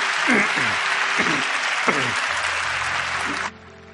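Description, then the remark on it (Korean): A crowd at a church worship service applauds loudly and steadily for about three and a half seconds to bless and encourage three musicians who played oboe, clarinet and piano, a dense wash of clapping with a few voices calling out beneath it, then the clapping stops abruptly, leaving a low hum. “우리 박수로 축복하고 격려하겠습니다.”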